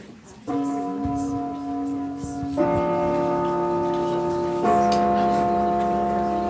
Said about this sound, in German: Der Gong im Casablanca ist auch so ein kinonostalgisches Detail. Es ist ein etwa 100 Jahre altes Gerät mit drei Tasten, bei dem man per Hand jede einzelne Taste drücken muss.